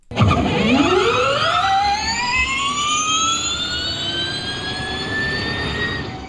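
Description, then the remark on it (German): A smooth electric whine from an electric car sweeps upward in pitch and then holds as a steady, loud, layered hum as the car accelerates. No one speaks. “Oder auch gerne ein E-Auto.”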